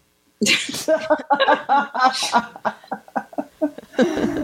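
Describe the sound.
A loud sneeze bursts out, followed by a second one a couple of seconds later, with voiced, breathy sounds and snickering carrying on between and after them.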